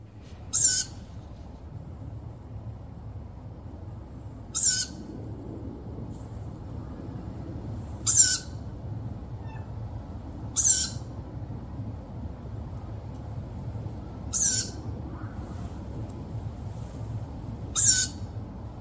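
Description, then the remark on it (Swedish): An owl gives six short, shrill, high-pitched calls at steady intervals of roughly three to four seconds, heard one evening at Fureplatsen near Gothenburg, Sweden, over a constant low rumble of background noise, with no one speaking. “hon visste att det fanns ugglor i området”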